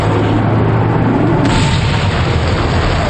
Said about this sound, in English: The area is an inferno of explosions as the fire spreads out over everywhere.